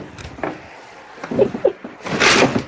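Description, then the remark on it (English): Muffled thumps and knocks from a door and objects being moved as a person goes into his room and bangs around behind the door, several irregular bangs followed by a louder rustling scrape. “And he's banging behind the door.”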